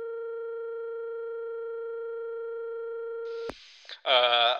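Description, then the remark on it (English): A steady, unbroken electronic telephone ringing tone of an outgoing call hums at a low-mid pitch for about three seconds, then cuts off with a sharp click before a voice begins speaking. “Mate, I'm going to call him.”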